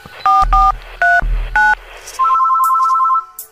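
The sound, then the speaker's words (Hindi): Four quick telephone keypad tones beep in an uneven rhythm, each a clear two-note electronic chirp, followed by a longer steady tone. Loud, with no voices. “मैं तुझे अभी फोन करता हूँ।”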